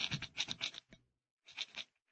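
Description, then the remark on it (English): A rock scrapes hard across the outside of a lead door, scratching an inscription, in two rough bursts of gritty, rasping strokes, separated by a short pause, with no voices over it. “What are you doing with that rock? I want to scratch something on the outside of this lead door.”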